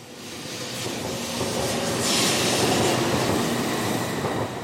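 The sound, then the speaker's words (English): A Tokaido Shinkansen high-speed bullet train in Japan runs along the rails with a steady roar and airy hiss that swells slightly partway through, continuous throughout, with no voices. “When you first board the Tokaido Shinkansen, the bullet train as it's commonly known, you hear two voices.”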